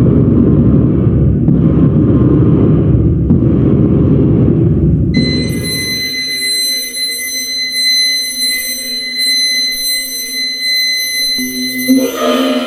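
Experimental noise music of the New Music (Neue Musik) genre: a dense, rumbling low drone pulses for several seconds, then gives way to high sustained whistling tones and thin metallic harmonics over a sparse, quieter texture, with no voices.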